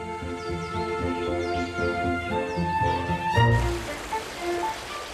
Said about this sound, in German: Der Frühlingsregen ist angekommen und lässt die Bäche des Regenwaldes anschwellen.